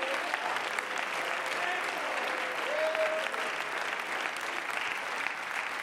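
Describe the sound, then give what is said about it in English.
A church audience claps hands to Jesus in a steady, dense wash of applause lasting several seconds, with faint voices and a brief tonal note rising within the noise. “Somebody clap their hands to Jesus.”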